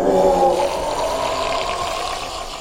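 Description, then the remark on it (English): A creature lets out a long, anguished howl, loud and harmonic with a wavering mid-pitched tone, strongest at the start and fading slightly as it drags on. No one speaks. “She stumbled back, pulling Hiku with her as the creature howled.”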